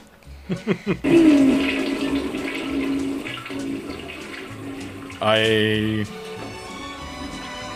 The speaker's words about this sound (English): you flush a toilet.